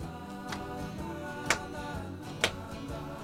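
sound effect, ticking countdown clock

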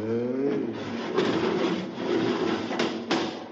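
household object, door being opened

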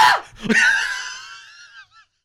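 human body sound, person screaming

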